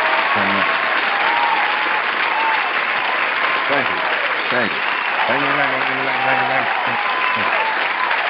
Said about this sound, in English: Well, first of all, I want to give a round of applause to myself for making it to the season finale, season 2. And then I want to give a round of applause to all of you who've been supporting the Fix, because I love y'all.